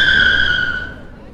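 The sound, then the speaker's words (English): A taxi's tyres screech loudly as it tears away at speed for the station, one sustained high squeal with engine rumble underneath, fading off after about a second. “Having failed to do that, I hailed one instead. Station as fast as you can.”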